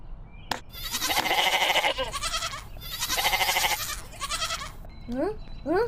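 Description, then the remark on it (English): A goat bleats loudly in two long, wavering cries, followed by a few shorter rising bleats near the end. “Oh no, where has the goat disappeared?”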